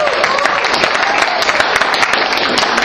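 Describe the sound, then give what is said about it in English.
Steady audience applause for the speaker's family, a dense wash of many hands clapping at once, loud and sustained throughout with no talking over it. “So can you just give them a round of applause?”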